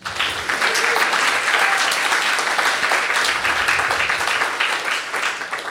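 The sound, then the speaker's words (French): An audience applauds steadily to welcome a guest, a dense wash of many hands clapping at an even, fairly loud level for several seconds, with a faint murmur of voices underneath. “On applaudit.”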